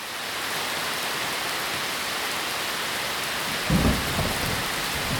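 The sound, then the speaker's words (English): Steady, dense rainfall from a thunderstorm in Blacksburg, Virginia hisses evenly throughout, with a brief low rumble of thunder swelling near the end before the downpour continues on its own. “If you guessed precipitation or rainfall, you're right.”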